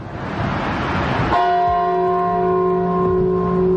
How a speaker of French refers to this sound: Au loin, la cloche du monastère Saint-Banayo sonne les 12 coups de minuit.